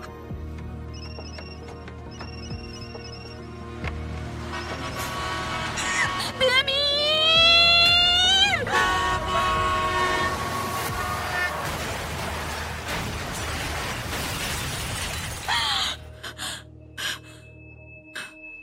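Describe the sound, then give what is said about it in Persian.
A loud vehicle horn and screech give way to a violent crash as a star's car, returning home from an awards ceremony, slams into a truck and overturns, glass shattering and debris scattering for several seconds before things fall nearly silent. “در پی این تصادف ماشین خانم این واژگون شد و بیهوش به بیمارستان منتقل شدند.”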